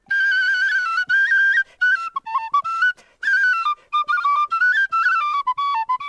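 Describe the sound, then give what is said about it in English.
A penny whistle plays a lively melody of quick, bright notes, with short breaths between phrases, clear with no voices, played outdoors under blue skies to a field of grass and birds. “… on his penny whistle, outside, blue skies, playing to a field of grass and birds.”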